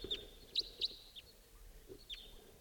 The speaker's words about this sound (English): It's 5:37, wild bird coming in.